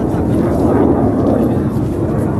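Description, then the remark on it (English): A loud jet aircraft roars overhead on a very cloudy day where people wait for a bus, a steady, heavy rumble that fills the whole stretch without letting up, with no voices over it. “Jet going overhead. It's very loud.”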